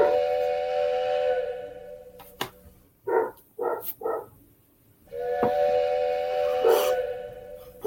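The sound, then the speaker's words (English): A loud, sustained train whistle blows twice, each long chord-like blast lasting about two seconds, separated by a few short barking-like bursts, with a faint hiss underneath. “I just, that train whistle.”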